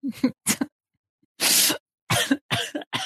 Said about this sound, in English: No, I'm coughing.